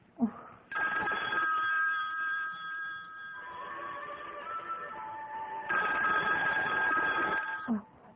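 A telephone bell rings loudly and continuously in two long bursts, a bright metallic trill with no one speaking.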